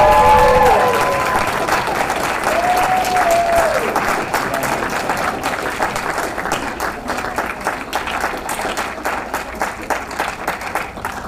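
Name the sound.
audience applause and cheering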